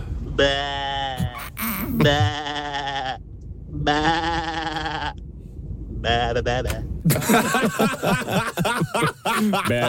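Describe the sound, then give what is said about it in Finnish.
A person imitates a sheep during an animal-sound karaoke segment, with four loud, wavering bleats separated by short pauses, then bursts of laughter and chatter follow. “Siinä lammas otti valla.”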